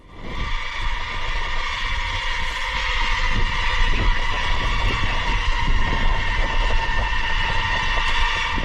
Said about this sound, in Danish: Den lyd, du hører her, det er 103 autonome droner, der er i gang med at løse nogle opgaver for den amerikanske hær. Dronerne de har navnet Perdix, og de er blevet kastet ud fra to Hornet kampfly, og de samler sig nu og styrer sig selv